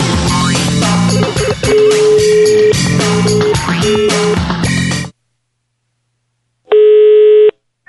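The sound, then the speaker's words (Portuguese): Telephone dialing and busy tones as the team at the radio station Mix calls a number again: steady electronic beeps sound over a dense, music-like backdrop for several seconds, then after a short silence a single loud, buzzy tone rings out briefly. “Vamos ligar de novo!”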